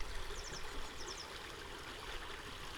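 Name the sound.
flowing mountain stream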